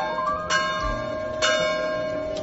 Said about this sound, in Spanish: Campana de la iglesia de la Dolorosa.